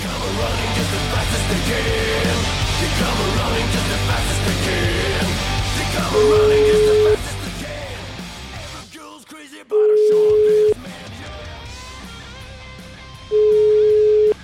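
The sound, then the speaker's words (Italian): Phone ringback tone as a call is placed to an animal rights activist: three steady, mid-pitched beeps about a second long, spaced evenly apart and loud, following a stretch of busy background noise that drops away. “Sentiamo sta animalista, va, chiamiamo.”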